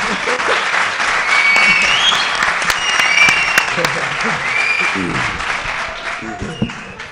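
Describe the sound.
Sustained audience applause for a singer about to perform his first song, a dense, steady patter of many hands clapping for about seven seconds, fairly loud, with some indistinct voices and whoops mixed underneath.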